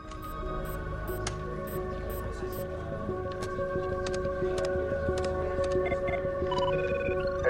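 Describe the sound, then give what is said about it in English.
A video phone call placed from a computer workstation rings with steady, layered electronic tones that hold without pause, accompanied by light scattered clicks and a low hum underneath. “She contacts Edgar by video phone.”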